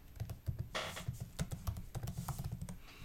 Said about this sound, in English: I hear the typing. You're typing away.